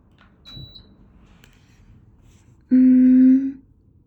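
An air conditioner gives a single loud electronic beep, steady and buzzy, lasting under a second as it switches off, after a faint brief high chirp and otherwise quiet background.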